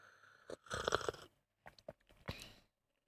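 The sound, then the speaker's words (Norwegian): A loud slurp of hot tea drawn in with air during tea cupping, followed by a few shorter wet sucking and swishing sounds, with no talking. “Skal jeg prøve å slurpe det samtidig, og så se hva anmeldelsen er? Skal vi køppe teen?”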